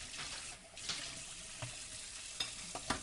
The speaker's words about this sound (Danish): Jeg har 2 store gryder. Og så er det ellers i gang med at koge. Koger det hvide med skjorterne og blæerne. Står her og rører i gryden.